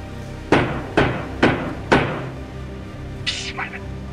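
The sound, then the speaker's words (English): Four firm, evenly spaced knocks on a front door ring out, followed after a pause by a short, higher-pitched scrape or squeak over a low background hum. “Is that the front door? Yeah, this is it.”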